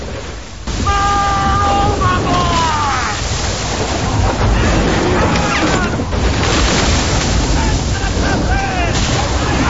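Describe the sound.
A stormy sea churns around a sailing ship in a dense, continuous roar of crashing 20-foot waves and wind, loud, with occasional faint voices of seamen calling out beneath the noise as they battle the torrent on board.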